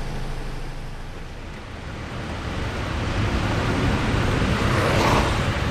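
A continuous, steady drone of petrol or diesel generators on an Iraqi city street, with a low rumbling hum and broad engine noise that swells slightly louder toward the end. No voices are heard.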